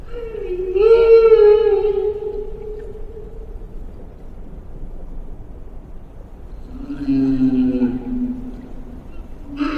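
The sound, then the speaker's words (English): Two long, moaning whale song phrases, sung to attract a mate in shallow tropical breeding grounds, rise and fall slowly, each lasting several seconds with a pause between, heard alone over a low, constant underwater rumble. “Sings to attract a mate.”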